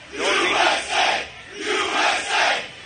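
A crowd cheers loudly in rhythmic surges at a headline saying STD cases in California reached a record high, about four swelling bursts of massed voices that sound almost like a chant, with no single speaker standing out.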